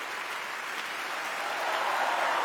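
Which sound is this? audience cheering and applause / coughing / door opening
audience cheering and applause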